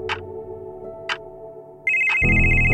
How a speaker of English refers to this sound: The phone rings.